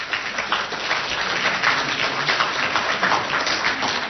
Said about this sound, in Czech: Já vás klidně poprosím o povzbuzování, máte tady svoje koně. Takže určitě váš potlesk je podpoří.